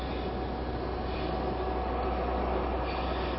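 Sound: train running on rails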